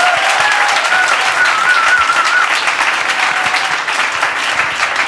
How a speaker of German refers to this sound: ein großer Applaus für die … live im Zuckerstückli-Podcast